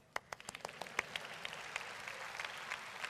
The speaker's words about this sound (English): And some of you here, don't clap, that's why I say don't clap first. You're going to leave the comfort of Dream Center here and move now to a totally new place. So now you can clap.